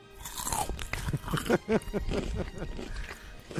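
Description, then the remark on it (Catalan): Crunching snacks from a huge XXXXL bag of crisps eaten by a cinema-goer during a film: a steady run of crisp, crackly bites and chewing, loud and bright with sharp high-pitched crackle, continuing for several seconds without any speech over it. “Per molt que duri la pel·lícula, sempre ens acompanya la seva presència gràcies a aquest so.”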